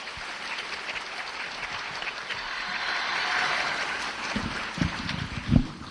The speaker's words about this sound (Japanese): 温かいご声援ありがとうございます。